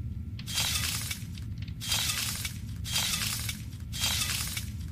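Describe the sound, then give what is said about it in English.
Broken glass being picked up: four gritty bursts of clinking and crunching shards at a steady, even rhythm, over a low constant hum, with no talking. “Picking up a bit of glass.”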